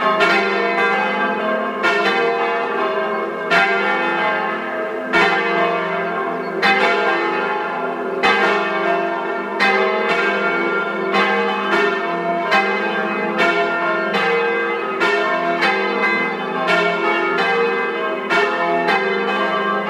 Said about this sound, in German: Es ist 12 Uhr. Sie hören die Glocken der Wallfahrtskirche Unsere liebe Frau am Sand aus Milland in Südtirol.